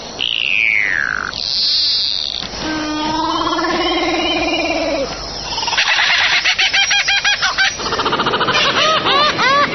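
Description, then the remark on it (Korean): A string of varied bird calls, one after another: a falling whistle, a harsh nasal call, then fast repeated chattering trills. The calls are loud, and no voices are heard. “새들은 여러 가지 방법으로 상대방에게 의사표시를 합니다.”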